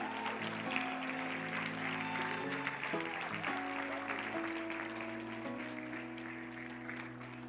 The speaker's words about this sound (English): Can you give them another hand clap?